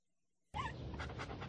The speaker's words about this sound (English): Do you know whose dog this is?